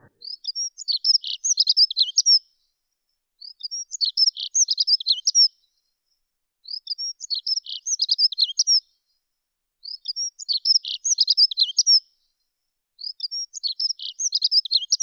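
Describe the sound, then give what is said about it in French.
A dunnock delivers five brisk, high warbling phrases of about two seconds each, evenly spaced by short pauses, clear with no other sounds or voices. “C'est une mélodie qui ressemble un peu à celle du troglodyte mignon, mais sans les trilles, ou un peu aussi au chant du rouge-gorge, mais sans la mélancolie du rouge-gorge.”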